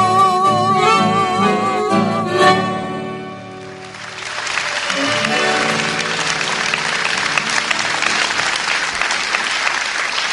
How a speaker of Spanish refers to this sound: Bueno, muchos aplausos que seguramente serán también recibidos en diferentes ocasiones y radios que van a continuar en la mañana de hoy